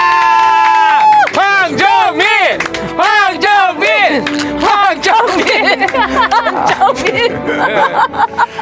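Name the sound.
audience cheering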